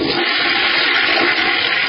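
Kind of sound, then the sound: household object, toilet flushing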